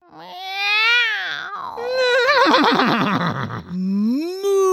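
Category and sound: animal, horse neighing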